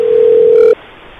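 A telephone ringback tone heard over the line on a call to the 911 emergency number: one steady, loud electronic hum lasting under a second, then abruptly cutting off to faint line hiss. No one speaks.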